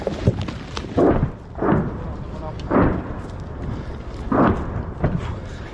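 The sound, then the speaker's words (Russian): A rapid series of heavy, booming rocket explosions from a Grad multiple rocket launcher barrage near Novomykhailivka, Ukraine, several deep blasts rumbling at irregular intervals over constant background noise. “Обстрел града.”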